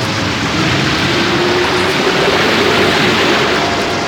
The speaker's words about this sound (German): Sieh doch, da kommt eine ganze Flutwelle. Aufpassen! Es schwemmt uns fort. Bleibt zusammen. Das Wasser steigt so hoch, wir müssen umkehren.